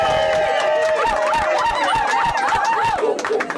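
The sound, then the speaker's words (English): A crowd claps steadily and densely, with shrill warbling whistles and cheers rising over the applause throughout, fairly loud, at the third annual Salty Dog Bird Call Contest just before the competition begins. “A big round of applause!”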